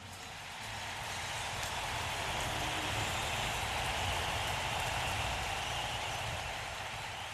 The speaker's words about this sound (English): Special one for our production crew, the men and women who is assembling the stage twice a night. Big round of applause, huh?